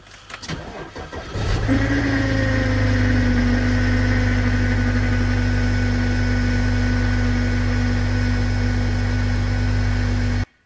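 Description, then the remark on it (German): A parked car's engine cranks briefly on a cold morning, catches, and settles into a steady, loud idle with a persistent droning whine until it cuts off abruptly. “Das ist irgendwie nur morgens, wenn er den Wagen abstellt, ne?”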